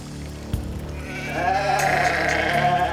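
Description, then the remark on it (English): A goat on a bridge lets out a long, loud, wavering bleat that starts around the middle and carries on to the end, clear, preceded by a soft thump and faint background rumble. “He hears a goat on the bridge.”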